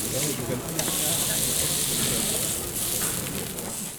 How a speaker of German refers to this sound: Ich finde natürlich, wenn so ein Grill brutzelt, ja, das hat was Heimeliges